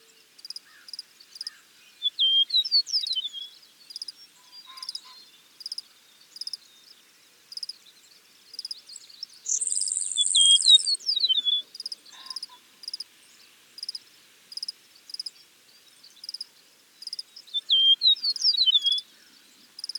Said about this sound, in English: Western meadowlarks have flute-like, liquidy songs, whereas the songs of eastern meadowlarks are relatively simple and have been described as slurred and whistle-like. Here's an eastern meadowlark singing in Minnesota.